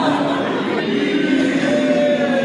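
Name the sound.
airplane flying overhead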